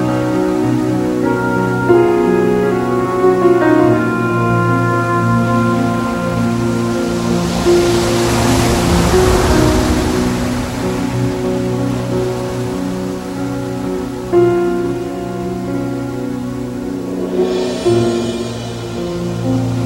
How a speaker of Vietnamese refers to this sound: Những đợt sóng khổng lồ nhận chìm cả người lẫn vàng xuống biển sâu.